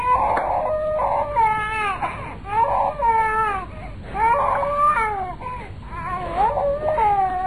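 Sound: baby crying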